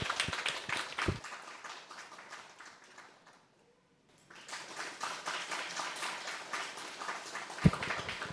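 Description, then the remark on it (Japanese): An audience in the lobby of the Kimitsu city hall, Japan, claps for a singer in a steady, crackling wash of applause that fades to a brief silence, then swells again and continues at moderate volume. “拍手をお送りください。”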